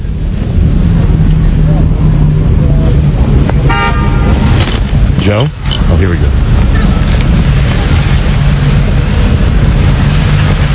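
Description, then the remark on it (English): Steady roar of busy street traffic, with tour buses and cabs rumbling past and a short horn toot partway through; a person briefly speaks over the constant, loud noise. “Oh, I forgot to mention that in the meantime, in this moment of silence, there are people on tour buses, sure. People walking by far away, staring police officers, luggage, cabbies, everybody staring at the guy with the lobster.”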